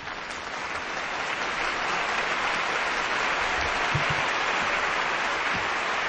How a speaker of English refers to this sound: Bit excessive, the applause there. I thought it would turn itself off.